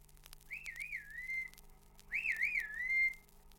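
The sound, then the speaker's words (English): Two sharp, warbling human whistles, each rising then wavering up and down before trailing off, with a short pause between them, heard over a faint low hum. A shepherd's whistle command to drive a sheepdog away. “And which whistle does it give when it drives away?”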